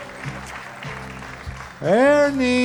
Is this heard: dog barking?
no